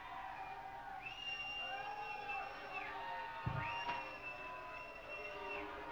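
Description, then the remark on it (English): A crowd yells and cheers, calling out "Lou", with long drawn-out group calls rising and holding over a steady wash of noise, and a brief thump partway through. “They're yelling Lou.”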